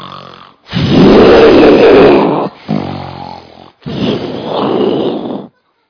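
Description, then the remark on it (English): A voice imitates loud, rough snoring in three long, rasping, grunting pulls, forceful, with short breaks between them and no other talking. “They can hear them 3 rooms away, snoring like, you know, elephants.”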